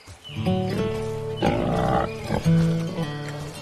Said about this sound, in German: Oh, heiliges Schweineohr. Das sind ja totale Süßlinge. Wie die hier als Mini-Ferkelgang durch die Gegend rennen und wie hektisch sie das Futter aus der Hand fressen.